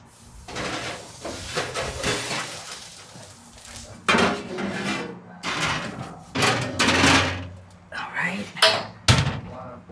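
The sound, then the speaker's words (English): A metal pie pan clatters and scrapes as it slides onto the rack of a 425-degree oven, to bake about 10 minutes so the crust browns, followed by several sharp knocks and a heavier thump like the oven door closing. “Okay, so now I'm going to put it in a 425 oven for about 10 minutes so that the crust gets brown.”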